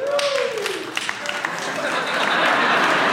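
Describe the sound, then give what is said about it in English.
Deer hunters in an audience break into applause when asked to identify themselves, a dense wash of clapping that swells and grows louder toward the end, with a few voices whooping underneath. “So just real quick, how many deer hunters are here by applause?”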